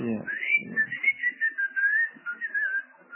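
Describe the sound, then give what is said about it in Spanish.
A person whistles a wavering, melodic call that rises and dips in pitch over about three seconds, moderately loud, with a brief low murmur at the very start. “Ah, como enlazado con las paredes que usted chifla y le contesta.”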